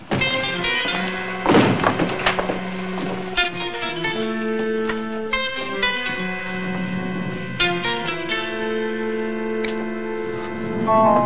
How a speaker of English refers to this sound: Shut the door